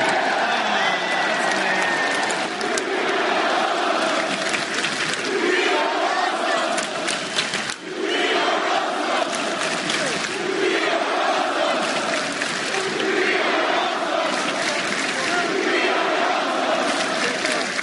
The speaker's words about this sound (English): Leave it to John Cena to suck up to the crowd when the show is over, try to get some cheers out of it. It worked, so I guess I can't really fault him for it. And indeed, that crowd was awesome.